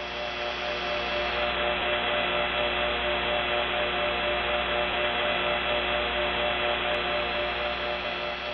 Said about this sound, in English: So if we pick up a payphone in Smyrna, put in a dime and dial 8, it's on T-Carrier, but you can hear the Trinity signature sound, the beating dial tones, all the way from Smyrna.